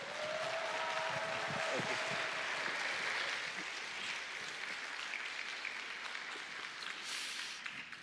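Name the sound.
audience applauding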